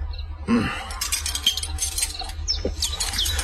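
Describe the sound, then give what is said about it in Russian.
Birds outside a window chirp and twitter in short, quick bursts, several calls scattered across a few seconds over a steady low background rumble, with no one speaking. “Как приятно сидеть одному за большим круглым столом, прислушиваться к птичьему щебету за окном, да кудахтанью кур.”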